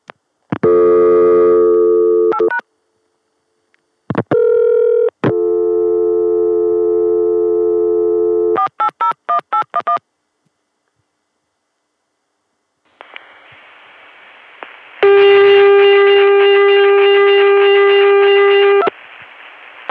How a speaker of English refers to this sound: And of course, if I use 480, which I'm trying to make famous for its dreadful tea carrier trunks, that ring is going to sound like crap. Let's try it. 243, dialed on the Chicago dial tone via 480.